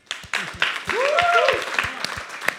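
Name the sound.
audience applause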